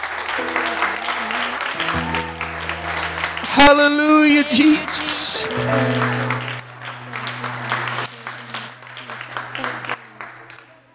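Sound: audience applauding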